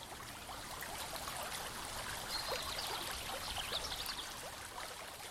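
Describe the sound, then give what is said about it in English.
Steady flowing stream water babbles and trickles continuously, a broad bright rush with small splashy bursts, moderately loud and alone with no voices. “just when you thought it was safe to go back in the water”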